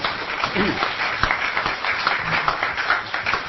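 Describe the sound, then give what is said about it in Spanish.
A crowd of listeners and friends applauding steadily for the members of the panel on the radio program Jamón del Medio, dense overlapping claps at a fairly loud level, with faint voices mixed in beneath the clapping. “¿Por qué no los aplauden a los integrantes de la mesa?”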